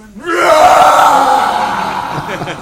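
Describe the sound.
A voice imitates the roar of a half-man, half-lion creature from a smashed pillar: one long, loud, sustained growling cry that swells quickly, holds for about two seconds with a harsh, rough edge, then fades slightly at the end.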